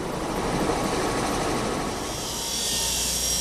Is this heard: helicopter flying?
yes